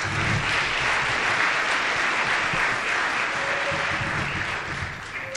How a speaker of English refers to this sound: Let's please give them a big round of applause.